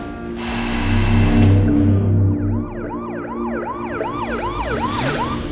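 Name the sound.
police car siren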